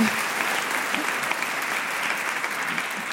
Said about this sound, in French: Et ça s'applaudit. C'est une belle performance.